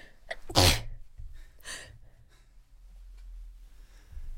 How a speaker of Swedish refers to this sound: Om ni undrar vad det var som lät, så var det tre stycken nysningar, tror jag. Jag tror jag nyste ut all sån här rök från scenen.